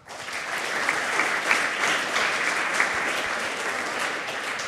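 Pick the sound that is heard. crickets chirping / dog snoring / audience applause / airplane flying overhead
audience applause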